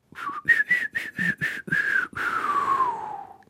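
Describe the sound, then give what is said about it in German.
A person whistles a short tune: several quick separate notes in a bouncy rhythm, then a longer held note that slides downward and fades, with breathy air noise and no talking. “Wenn wir die ganze Zeit so weiter pfeifen, kriegen wir heute keine Frage und keine Antwort raus.”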